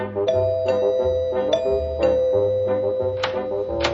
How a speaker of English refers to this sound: Here we are. I hope she's home. Can I ring the bell? May I ring the bell?